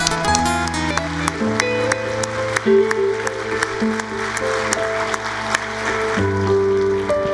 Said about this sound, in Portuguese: Eu te convido a adorar e glorificar o Espírito com uma grande salva de palmas.